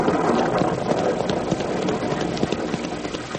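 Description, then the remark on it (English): A steady wash of rain that is just beginning to fall fills the scene, dense and even, with scattered light taps and clatter mixed in. No one speaks. “We can still land dry. The rain's only beginning.”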